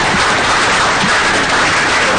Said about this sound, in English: I want to thank the panelists, so how about a round of applause for the panelists?